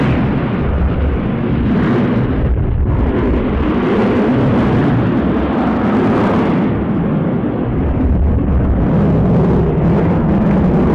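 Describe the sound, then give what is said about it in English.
A loud, steady roar of an airplane flying past overhead, a deep rumbling drone that fills the whole stretch and swells slightly without fading away, with no voices. “And did you wait for the plane to go by?”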